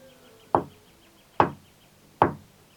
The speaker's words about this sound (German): Sie fanden auch ganz richtig um die Ecke das winzige Haus, umrankt von seltenen Blumen, die betäubend dufteten. Sie klopften dreimal an.